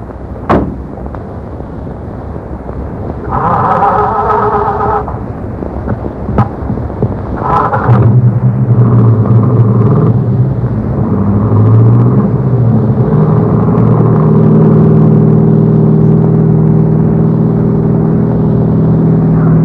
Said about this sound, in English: There it is. The police car stopped in front of Taggart's Cutrate Pharmacy. So it has.